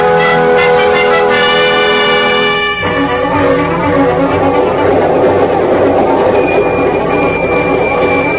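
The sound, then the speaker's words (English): A ringing, bell-like tone sounds for about three seconds, then gives way to the loud, steady rumble and clatter of a train in Spain heading for Madrid, rolling along its rails, continuous, with no voices. “there I was, on a train heading straight for Madrid”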